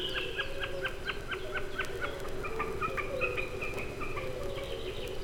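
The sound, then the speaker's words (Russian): A snipe diving high in the blue sky drums with its vibrating tail feathers, a rapid, rhythmic pulsing tremolo like a high, wavering bleat that continues steadily over a low background rumble. “Вот он пикирует, слышно, как вибрирует перья хвоста.”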